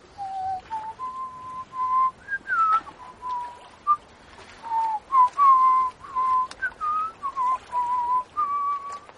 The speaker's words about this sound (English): Whistle.